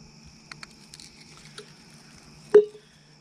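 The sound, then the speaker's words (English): A short, wet splash of coffee poured onto birch bark on a rock, with a few faint taps and soft rustles beforehand against a quiet outdoor background; no one speaks. “Now to show you how volatile this is, I think what I'm gonna do is pour some coffee on it.”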